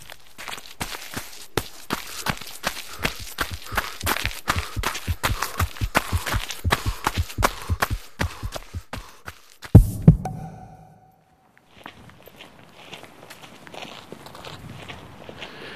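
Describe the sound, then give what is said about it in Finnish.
Steady footsteps of a person walking on the way to a University of Helsinki faculty building, clear in a brisk even rhythm for about ten seconds, then a couple of heavier thuds before the steps stop and only a faint ambient hum remains. “Mä oon tässä juuri matkalla Helsingin yliopiston valtiotieteellisen tiedekunnan rakennukseen”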